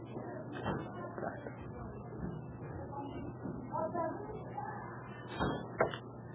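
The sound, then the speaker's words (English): A door is pushed shut, with a soft bump early on and a sharper thud and latch click near the end, over faint background murmur. “Close the door, please.”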